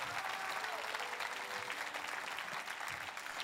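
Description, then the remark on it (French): An audience claps steadily, a dense wash of many hands at an even, sustained level with no pauses, a faint murmur of voices mixed underneath. “Je vais applaudir ce que Dieu pourrait faire, les œuvres que Dieu pourrait faire.”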